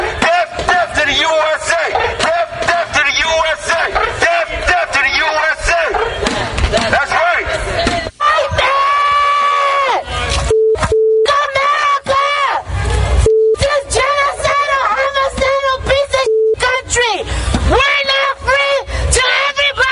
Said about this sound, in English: this is what they were marching through the streets, yelling and screaming through their megaphones on Independence Day. Death, death to the USA!